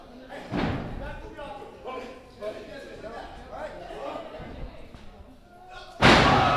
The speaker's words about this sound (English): Threw him into the other guy. We have body slams going on everywhere.